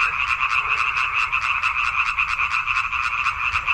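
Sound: frogs croaking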